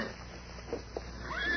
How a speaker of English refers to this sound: There's a horse beyond that rock.